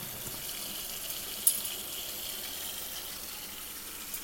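tap water running

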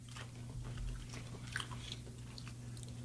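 chewing food

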